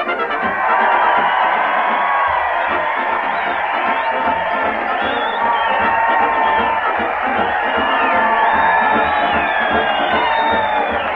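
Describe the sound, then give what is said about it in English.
A large crowd cheers and shouts continuously at a parade with a band heading to the Old Town Hall, a dense, loud wall of overlapping voices and whoops that holds steady for the whole stretch. “Crowd here, Fred Allen, as he heads his weekly parade to the Old Town Hall”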